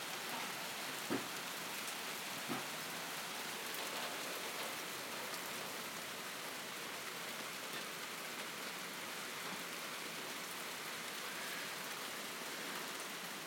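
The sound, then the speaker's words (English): Steady rain, which keeps stopping and starting, patters on a hard surface, a dense continuous hiss with a couple of sharper drips early on, even in loudness throughout, with no voices. “It keeps stopping and starting, the rain.”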